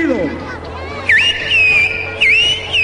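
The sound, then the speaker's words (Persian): A person whistles two bright, bird-like phrases imitating a bird's song, each starting with a quick swooping dip and then holding a high, steady note, over a low murmur of background voices. “او در حالی که آواز پرنده را تقلید می‌کرد گفت: پرنده در حالی که به من مینگریست آغاز به خواندن کرد.”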